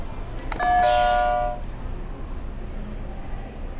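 A game buzzer sounds a bright electronic chime: one ringing, bell-like tone with shimmering overtones that lasts about a second, then fades into a low steady background hum.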